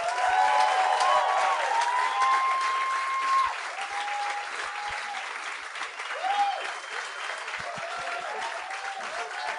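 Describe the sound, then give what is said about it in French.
A large TV show audience applauds steadily to welcome guests Jean-François Mercier and Catherine Levac, a dense wash of clapping with some whistles and cheers on top, sustained throughout and easing slightly toward the end. “Mesdames et messieurs, j'aimerais ça qu'on donne bonne main d'applaudissement à Jean-François Mercier et Catherine Levac.”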